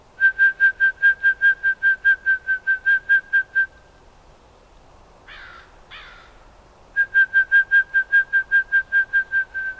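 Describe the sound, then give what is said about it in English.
A person whistles a rapid, evenly pulsed trill imitating a toad's call to get toads to answer back, in two long bursts separated by a pause with a brief rustling noise, fairly loud. “But sometimes when you come here and they're not calling, you can whistle and get them to answer back.”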